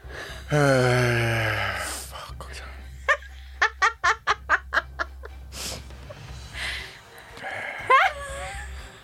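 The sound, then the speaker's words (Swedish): A person grunts and breathes heavily, starting with a long strained vocal groan, then a quick series of short rhythmic grunts followed by labored, audible breaths. “Alltså du grymtar typ.”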